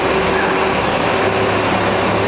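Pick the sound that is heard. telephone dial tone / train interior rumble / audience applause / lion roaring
train interior rumble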